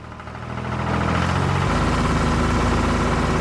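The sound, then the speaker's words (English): A tractor engine idles loudly, a steady low rumble with a rhythmic chugging throb that swells in the first second and then holds constant. “their drastic measure was to get a tractor and haul it out of there”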